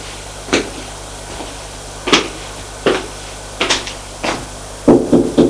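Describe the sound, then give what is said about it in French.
Knocks on a bedroom door: sharp, solid raps spaced irregularly at first, then a quicker run of three at the end, over a low steady hum, with no voices. “Et va frapper à la chambre de Julien.”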